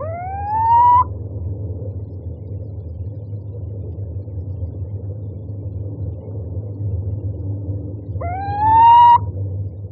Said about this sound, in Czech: Síček je krásná a zajímavá sovička.